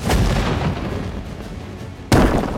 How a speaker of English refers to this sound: The pirate's cannonball missed the ship but hit a tall rock face. Exploded rock chunks rained down on Charlotte's ship.